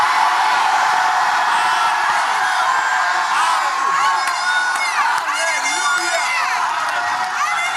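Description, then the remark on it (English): An audience shouts and cheers continuously, many voices overlapping in a loud, dense roar with individual high whoops and cries rising out of the crowd throughout. “Somebody shouting here.”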